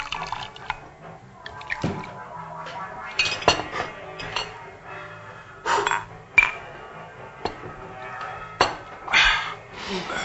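Stolichnaya vodka pours and trickles into glasses in a restaurant during a toast to friendship, broken by several sharp, bright clinks of glass on glass, with a faint murmur of voices underneath.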